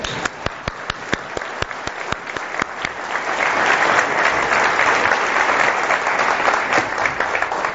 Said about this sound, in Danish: Kan du ikke lige rejse op, så vi kan klappe af dig for øvrigt?